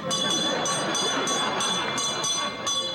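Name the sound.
small hand bell ringing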